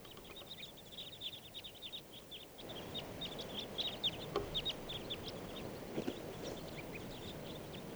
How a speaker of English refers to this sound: So we're recording. Here's a huge flock of crossbills. 25 birds. Come on.